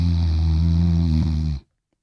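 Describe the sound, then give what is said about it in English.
A voice imitates one long, loud snore, a deep rattling drone held steadily for about a second and a half before cutting off abruptly into silence. “what is it about people who snore like a motherfucker, fall asleep immediately?”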